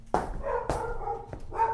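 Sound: dog barking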